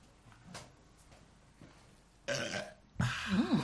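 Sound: burp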